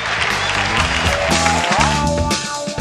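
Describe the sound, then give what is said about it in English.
A burst of cued audience cheering and applause runs steadily for a few seconds, a loud, dense roar of clapping and crowd noise with sustained musical tones underneath. “Then that's where you cue the cheering.”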